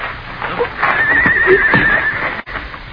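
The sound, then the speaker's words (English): A horse lets out a long, quavering whinny lasting about a second, with a few hoof clops on hard ground around it, clear. “I'll take my horse then”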